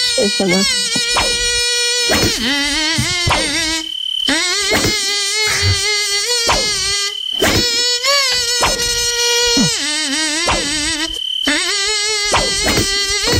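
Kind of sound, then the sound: insect, mosquito buzzing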